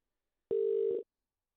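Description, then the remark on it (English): A single steady electronic phone tone, a ringback signal on an outgoing call made to call a woman back, sounds for about half a second with a click at the start, then stops. No one speaks. “Call her back now.”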